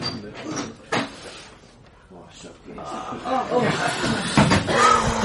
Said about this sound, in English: Every time that door opens... You think they're coming for us?